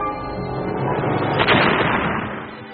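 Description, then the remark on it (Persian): A loud, sustained rumbling roar of an explosion followed by heavy shaking, swelling to a sharp burst midway and then slowly fading out, with no voices present. “یه دفعه انفجار انجام شد و لرزش شدید پیش اومد.”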